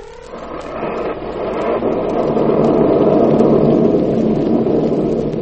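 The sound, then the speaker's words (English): A heavy thunderstorm raging outside a house, with a steady roar of rain and a long, rolling rumble of thunder that swells louder and lasts several seconds, with no voices. “A storm rages outside the house of Emery Lockmore, the celebrated Egyptologist and authority on rare Oriental treasures.”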